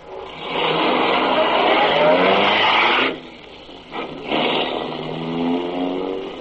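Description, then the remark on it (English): A car engine revs and accelerates with a steady mid-pitched roar, drops off abruptly around three seconds, then surges again in a second shorter run with rising harmonic whine, as the car is driven to an apartment house at about 8 o'clock in the evening. “About 8 o'clock that evening, I drove to the apartment house where Howard Kendall lived.”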